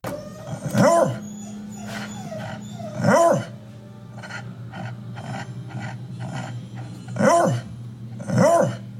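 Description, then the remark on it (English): A dog barks four times with uneven pauses, each bark loud and slightly drawn out, over a steady low background hum and faint softer sounds between barks. “As with all dogs, they can bark. They tend to be less vocal than other breeds, but I do have a clip.”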